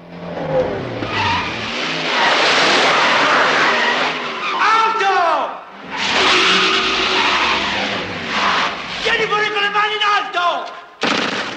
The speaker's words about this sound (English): The Mercedes circles the courtyard, a fly caught in a spider's web. It swerves from one exit to the next.